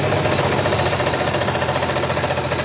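A motorcycle engine runs loud, idling with a rough, rattling chug that pulses steadily throughout, with no voices over it.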